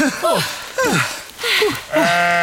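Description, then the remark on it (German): A sheep on a dike bleats, four loud, wavering calls in quick succession with short pauses between them and some breathy outdoor noise underneath. “Die Schafe hier auf dem Deich verlieren manchmal das Gleichgewicht.”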